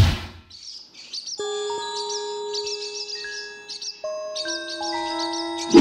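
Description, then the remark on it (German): Swallows twitter in quick, high-pitched bursts of chirps throughout as they sail over a roof terrace, while steady ringing, bell-like tones enter underneath and hold, shifting pitch a few times. No one speaks. “Schön, wie die Schwalben über unsere Dachterrasse segeln.”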